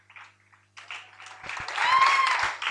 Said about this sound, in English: Putting your hands together for the Lord also means clapping for Jesus.